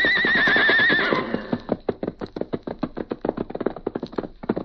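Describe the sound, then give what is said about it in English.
A white horse lets out a loud, quavering, defiant whinny lasting about a second, then a quick, steady run of hoofbeats follows as it gallops off from the hills toward the plains, clear. “New adventure was ahead, and with a shout of defiance, he left the hills to dash ahead.”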